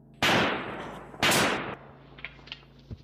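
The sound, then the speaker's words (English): Two loud gunshots about a second apart, each cracking sharply and trailing off in a short echoing decay, followed by a few faint clicks and thuds. “Another by gunfire.”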